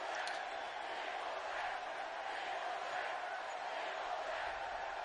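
A large wrestling arena crowd cheers and roars in a steady, continuous wall of noise, loud and even throughout, with no single voice standing out.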